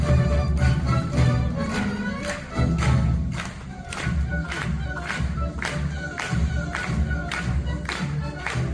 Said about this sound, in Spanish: Y una larga ovación del público cerró anoche el concierto de Año Nuevo en el que se estrenó la Orquesta Sinfónica de Lorca.